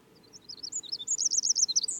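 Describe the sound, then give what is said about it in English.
A Pacific wren and a song sparrow sing, a rapid stream of high, tinkling trills and chirps that builds louder and denser toward the end over a low outdoor rumble. “We had a wren and then a song sparrow. The wren's still singing.”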